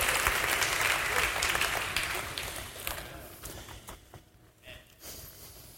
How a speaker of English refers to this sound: Amen. Y'all keep applauding like that. And I might get over my nervousness.